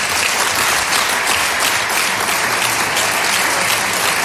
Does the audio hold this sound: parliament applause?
yes